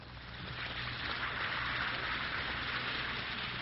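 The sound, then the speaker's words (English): Steady, dense fizzing hiss of an Alka-Seltzer tablet dissolving in water, a bright crackle of tiny bursting bubbles that rises in the first half second and holds evenly, with no voices. “Listen to It Fizz.”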